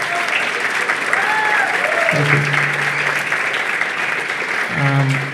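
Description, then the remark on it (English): Steady, dense applause from an audience fills the whole clip, loud and continuous, while a man's voice speaks briefly over the clapping. “A big round of applause for you guys as well.”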